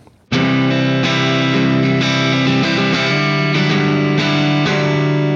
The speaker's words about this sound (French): Et donc sur ce son de disto, par exemple, si je fais péter ne serait-ce qu'un crunch.